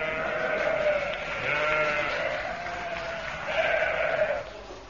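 sheep bleating

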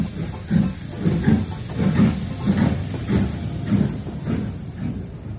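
door being closed

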